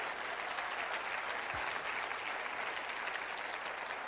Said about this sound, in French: On va applaudir juste la simplicité.